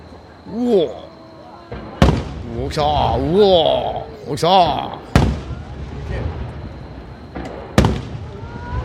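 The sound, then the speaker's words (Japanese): Fireworks at the Katakai fireworks show, shell number 15 fired as a rapid-fire sequence, burst in quick succession, about five loud, sharp booms at irregular intervals, with excited voices calling out between the blasts. “おい、15弾も早打ち。ドーン。うわ、何発続くのこれ。”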